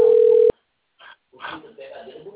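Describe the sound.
A steady, mid-pitched telephone ringing tone sounds for half a second and cuts off abruptly, followed by a brief pause and then a muffled, narrow-band voice speaking over the phone line.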